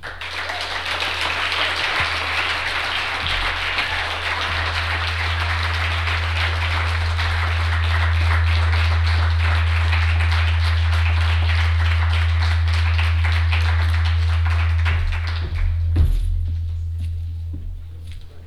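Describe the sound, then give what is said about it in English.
A crowd applauds in a dense, steady wash of many hands clapping for about fifteen seconds, then tapers off quickly, leaving a low steady hum underneath. “All right, so first of all, before we clap for everyone, can we get another round of applause for the undergraduates who read?”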